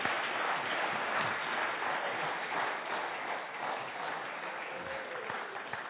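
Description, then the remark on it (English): A crowd applauds steadily for several seconds, a dense, even wash of many hands clapping at a constant level with no voices standing out, thanking two participants after a story. “Big round of applause.”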